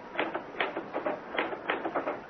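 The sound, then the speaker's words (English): Typewriter keys are struck clumsily in uneven bursts, a few clacks bunched together, then a pause, then more hesitant clattering. Moderately loud, with no voices. “Ah, why did I never learn to work a typewriter?”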